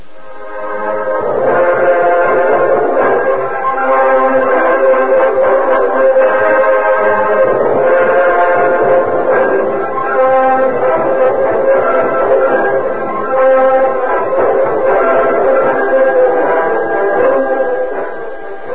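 A train whistle sounds long and loud in a steady, chord-like wail over the rumble of a train departing into the darkness, continuing for the whole stretch with no one speaking.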